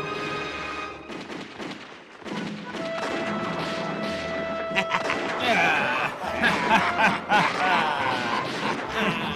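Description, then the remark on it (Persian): Bursts of gunfire crackle from the direction of a camp, scattered shots thickening into a rapid volley toward the end, with murmuring voices and background commotion mixed underneath. “صدای تیراندازی از طرف اردوگاه.”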